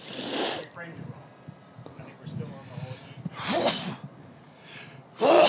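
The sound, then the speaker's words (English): Three sharp, explosive sneezes ring out, spread across a few seconds, with quieter voices murmuring in between. “Sneezing a sport?”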